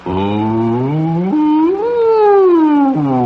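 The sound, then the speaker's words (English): A single voice imitates the fire siren that blew in the middle of the night when a mill burned down. It wails upward in a long rising-and-falling whoop, loud, sustained for about three seconds with no other speech. “I was awakened in the middle of the night by the blowing of the fire siren.”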